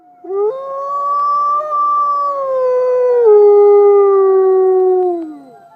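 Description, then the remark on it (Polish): A single wolf howls one long, sustained note lasting about five seconds, starting with a rise, holding steady, then sliding gently downward before fading out; loud, clear and alone, with no talking. “Wilki są legendarne ze względu na ich wycie, które wykorzystują do komunikowania się.”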